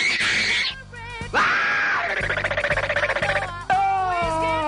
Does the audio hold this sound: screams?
yes